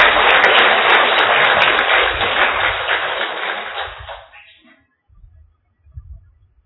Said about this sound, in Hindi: हाँ, पहले एक बार जोर से ताली बजा सकते हैं।